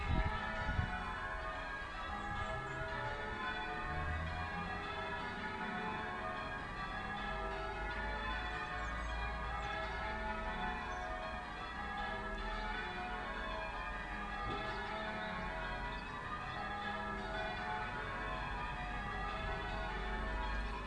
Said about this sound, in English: Isn't that fantastic? There are 12 bell ringers locked in a small room high up in the church. And the plan is to play for 6 hours.